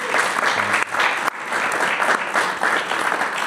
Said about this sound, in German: Wahnsinn, großen Applaus dafür mal.